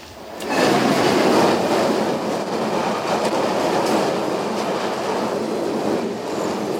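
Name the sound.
train passing on rails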